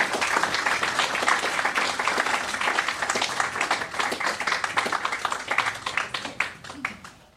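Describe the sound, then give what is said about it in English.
A live audience at an author event applauds warmly as two authors take their seats on high chairs, many hands clapping in a dense, steady wash that stays loud throughout before thinning slightly toward the end. “Ladies and gentlemen, as they take their seats on the high chairs, let's give a warm welcome to”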